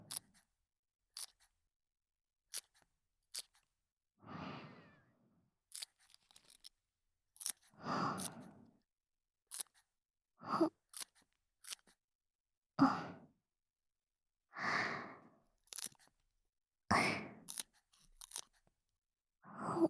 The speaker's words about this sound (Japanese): どうですか？お花の使用しない部分を切っている音なんですが。気持ちいい音ですよね。